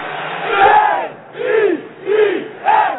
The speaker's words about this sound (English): Come on, crowd. Let me hear you. Let me hear you say hell.